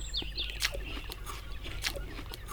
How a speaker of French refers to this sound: Si, je t'entends croquer. Monsieur, qui ne dit jamais, bien sûr que je croque. Je mange le fruit que je n'ai pas cueilli, puisque tu me l'as si gentiment posé dans la main.